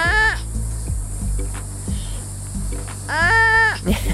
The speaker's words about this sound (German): Ja, ich weiß, es könnte auch ein Porno sein oder so, ist es aber nicht, versprochen. Das sind Geräusche, die Faultiere machen, Babyfaultiere.